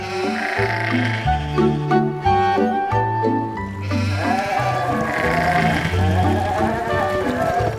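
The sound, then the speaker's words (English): Several goats bleat loudly, their wavering calls overlapping in a steady, continuous chorus with no pauses and no talking. “The biggest goat says, "Let's go eat that grass." The other goats say, "Okay."”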